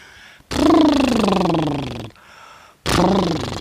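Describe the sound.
A voiced lip trill, the buzzing 'brrr' of a coachman's R practiced as a speech-training exercise, sounded loudly twice: a long burst gliding downward in pitch, then a brief pause before a second, shorter one.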